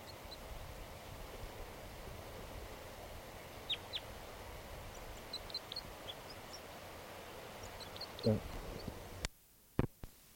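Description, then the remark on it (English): Flight calls of wild crossbills taking off from a tree behind a net by a creek: short, sharp, high 'kip' notes, single and in quick pairs, scattered irregularly over a steady rushing background noise, followed near the end by a few low thumps and clicks. “Flight calls of a wild bird.”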